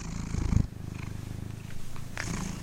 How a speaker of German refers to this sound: Also, ich glaube, es ist eine Katze oder ein Kater, der schnurrt.